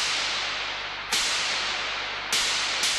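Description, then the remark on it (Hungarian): Sharp electric discharge cracks from artificial lightning, which splits a tree branch: three sudden loud snaps at uneven intervals, each followed by a steady, harsh crackling hiss that fills the gaps between them. “Az ágat a kisülés széthasította.”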